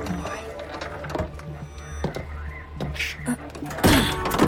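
door being opened

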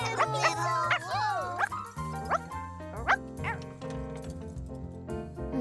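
puppy barking

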